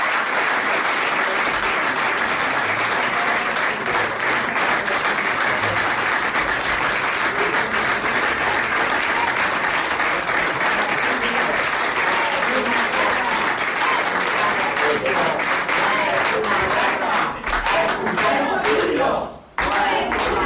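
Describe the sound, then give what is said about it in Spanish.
A packed hall at the Government Delegation in Cantabria, Spain, applauds loudly and steadily for about twenty seconds to welcome an arriving ambassador, a dense wash of clapping with scattered voices and shouts about Palestine mixed in, briefly dipping near the end. “Este aplauso cerrado ha sido el recibimiento hoy al embajador a su llegada a la delegación de gobierno”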